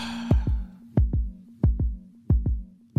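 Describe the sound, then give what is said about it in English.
An irregular heartbeat plays in the background, thumping in deep double beats, four lub-dub pairs at a steady pace over a faint low hum, with a brief hiss of noise at the start. “They scared we can hear their heartbeat. And that's what you that's what you hear playing in the background.”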